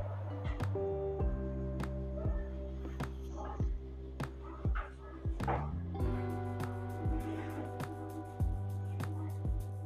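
dog barking

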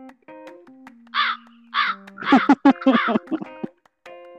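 crow cawing

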